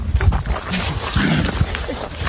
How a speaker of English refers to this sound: Here, no, right there, no, no, you can hear it. Hear the cougar.